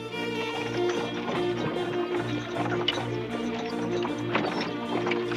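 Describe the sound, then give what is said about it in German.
Three fully loaded horse-drawn carts leaving the town of Weimar, hooves clip-clopping in a steady rhythm at moderate volume over a continuous bed of sustained, humming tones. “Nur wenige Wochen später verlassen drei vollbepackte Pferdekarren die Stadt Weimar.”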